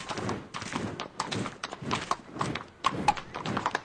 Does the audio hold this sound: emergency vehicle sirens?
no